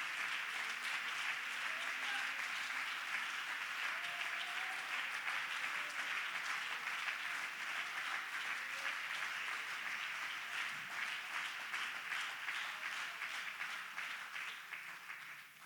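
An audience claps their hands to the Lord in a dense, steady wash of applause that holds loud and even for about fifteen seconds, then begins to thin and fade at the end.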